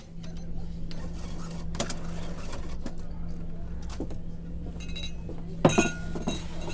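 Glasses clink together in a toast, a bright, brief chime near the end, over a steady low hum and faint background chatter.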